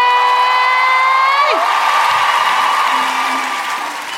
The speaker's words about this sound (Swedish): Saknas inte någon? Ge en stor applåd